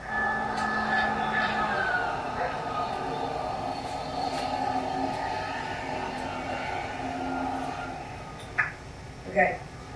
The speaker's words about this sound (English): It's like having the lawnmower here. It's a blower. It'll be done in a second.